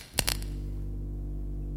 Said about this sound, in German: Ich lege diesen Hebel an der Tür um.